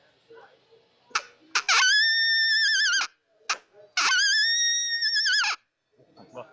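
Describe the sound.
A predator howler call sounds two long, wavering, high-pitched howls, each starting with a few short sharp bursts before swelling into a loud sustained tone, with a pause between them.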